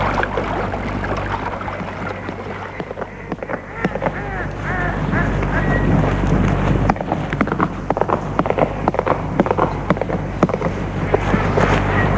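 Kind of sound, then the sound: animal, horse hooves clip-clopping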